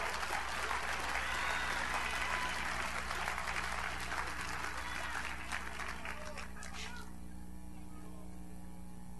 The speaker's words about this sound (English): I'm telling you, church, somebody ought to clap your hands and thank God for it.